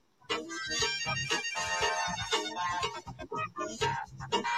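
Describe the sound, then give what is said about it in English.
A melodic phone ringtone plays steadily for several seconds, bright and loud, with rich layered tones and short repeating notes, and no one talks over it. “Answer the phone.”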